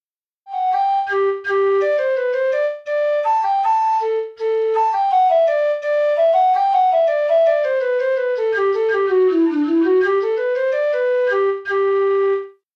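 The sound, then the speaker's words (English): A bright, reedless tin whistle plays a lively Irish folk melody alone, with quick ornamented runs, held notes and short breath pauses between phrases, sounding clear. “The tin whistle is a wind instrument that you can hear in Irish music.”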